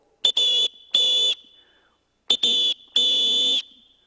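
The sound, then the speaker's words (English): A shrill, high-pitched whistle is blown loudly in two sets of three blasts, a short toot followed by two longer ones, with a pause between the sets. “Once he realized he was lost, he sought shelter and he began to blow on his whistle.”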